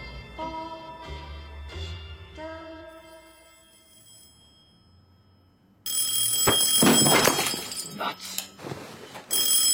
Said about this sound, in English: Phone rings and a lamp smashes. This is an unwelcome middle of the night phone call for Dave and Carol Toski.